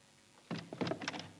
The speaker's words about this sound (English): For God's sake, come in. I'm coming in, aren't I? It's that stupid bleeding handle on the door. You want to get it fixed?